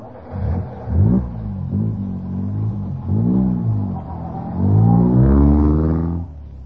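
A car drives past, its engine revving up and down in several surges with a steady low rumble underneath, loudest toward the end before cutting off, while a cow named Zenzi floats half-asleep above the moving car as it grows dark.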